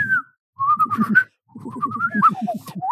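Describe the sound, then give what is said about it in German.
A person whistles a playful, bird-like tune in two bursts of warbling, sliding notes, fairly loud, imitating birdsong with no talking. “Und dann denke ich so, aber was ist denn das Wort für Fenster in Vogelsprache?”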